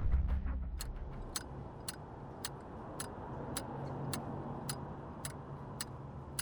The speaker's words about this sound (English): Ticking? Your metronome? You don't hear it? They can probably hear it in the next office.